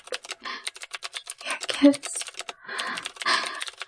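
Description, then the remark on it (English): Rapid typing on a computer keyboard, a steady stream of crisp key clicks with brief pauses and a louder tap or two in the middle, heard on its own without any talking. “Are you typing everything out that I'm saying?”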